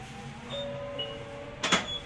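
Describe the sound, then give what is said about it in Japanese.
The sliding door of a Kumamoto city tram bound for Kami-Kumamoto Station rumbles shut with a soft mechanical whir, ending in a sharp thud, over the low hum of the vehicle interior, and a faint chime-like tone is heard briefly. “ドアを閉めます。 ドアが閉まります。”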